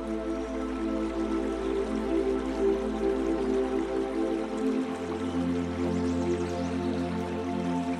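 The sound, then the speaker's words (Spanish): Flowing water of a crystal-clear river with small orange fish babbles and trickles steadily throughout, with soft dripping textures over a low, sustained humming drone that shifts pitch slightly partway through. No one speaks. “La saludas con la mano y te aproximas al río junto a ella.”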